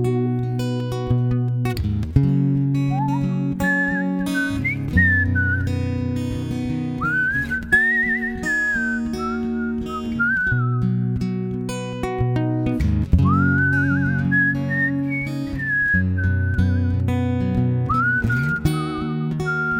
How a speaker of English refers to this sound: First of all, I think the whistle solo is a lost art in music today, so nice job on that. Yeah, I love throwing in the whistle here and there. I try not to overdo it. I try to just use it tastefully.